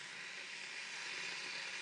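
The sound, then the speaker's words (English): A kettle beginning to boil gives off a steady, airy rushing hiss that holds even and unbroken throughout, fairly soft, with no voices over it. “As you can hear, the kettle's boiling.”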